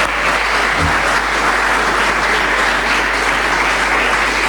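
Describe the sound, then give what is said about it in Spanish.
Steady, loud applause from an audience for congressman Eduardo Amadeo, a dense wash of clapping that holds evenly for several seconds without any voices standing out. “Un aplauso para Eduardo Amadeo.”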